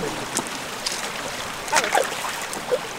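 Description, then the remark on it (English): A creek in Fern Canyon, Humboldt County, flows with a steady broad rush of water, broken by a few small splashes and trickles scattered across a few seconds. “Floating a little fern boat down the creek?”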